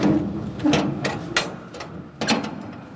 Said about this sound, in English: pulls the large steel doors closed and fixes the wide latch. I'm just going to close it.